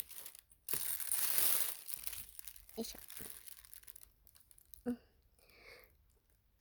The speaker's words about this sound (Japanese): じゃあビニール袋